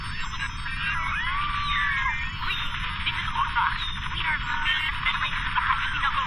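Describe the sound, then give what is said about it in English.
A dense, band-limited tangle of many agitated, panicking voices and cries, continuous and loud for several seconds, with a thin, tinny, filtered quality like a crackly radio transmission over a low rumble; a played-back recording of the Spinochle transmission from earlier that day. “Go back to the beginning of the transmission, but this time remove the sounds of the panicking crowd.”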